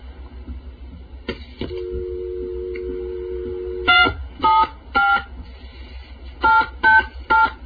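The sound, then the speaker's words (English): A touch-tone phone dials a working number through a step switching office: a steady dial tone gives way to a quick series of distinct beeping keypresses in uneven groups, with faint clicking switching equipment noise underneath. “Let's first dial a working number in the step using the touch tone phone.”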